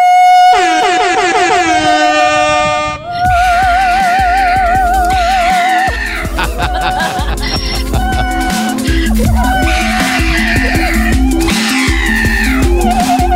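A loud musical mashup of donkey braying, opera singing and a pug: a blaring, harmonic bray opens, then a pounding beat drives on under a wavering vibrato voice and layered cries.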